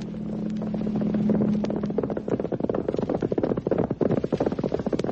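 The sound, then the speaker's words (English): Hooves of a ridden horse clip-clop in a quick, steady galloping rhythm, loud. A low droning hum underlies the first couple of seconds, then fades. “On horseback.”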